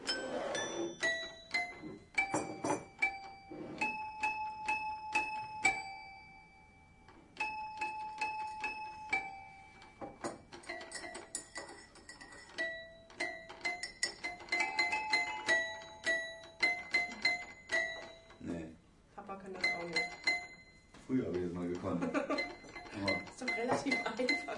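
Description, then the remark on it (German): A glockenspiel plays a bright, ringing melody of struck metal bars, notes sustaining and overlapping in quick phrases, with a few brief pauses and some lower clattering near the end. “Glockenspiel.”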